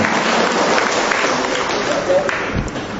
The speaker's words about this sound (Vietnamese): cho một tràng pháo tay chào người về từ cõi sắp chết.